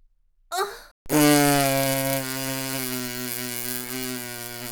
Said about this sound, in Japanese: くそー、店じまいの特大おならって感じだね。